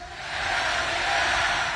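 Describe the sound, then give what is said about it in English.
A large crowd at UltraFest 2017 shouts "hell yeah" together in a loud, sustained roar that swells after a brief moment and holds steady, many voices blending into one dense cheer. “Everybody say hell yeah!”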